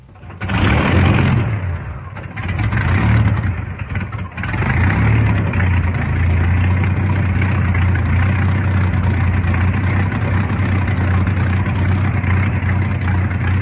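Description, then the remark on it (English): A propeller plane engine, started by a pilot strapped in before taxiing out onto the field for takeoff, coughs to life and settles into a loud, steady idle, its low rumbling drone running continuously with no voices. “Another moment and the engine starts.”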